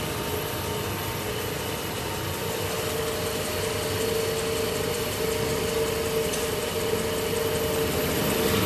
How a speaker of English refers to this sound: So he's turning the wheel on the lathe and burnishing it with a tungsten burnisher. So he's polishing up the wheel.